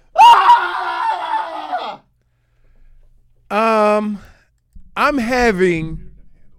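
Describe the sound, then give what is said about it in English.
A man lets out a long, loud, strained scream into a pillow, followed after a pause by two shorter, strangled yelling outbursts, with no other sounds between them. “just, like, wakes up this morning after a hard-fought game and just, like, turns over at the pillow and just screams?”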